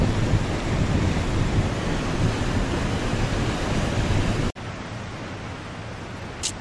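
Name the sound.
stormy ocean surf crashing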